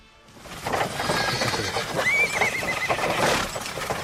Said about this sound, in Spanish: Son las carrozas, los caballos, porque este lugar, planteado por Felipe II en el siglo XV, era un espacio de esparcimiento, donde relajarse a las afueras de la ciudad.